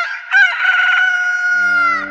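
A single loud rooster crow, a long sustained cock-a-doodle-doo, rising sharply then holding a strained, harmonic-rich tone for about two seconds.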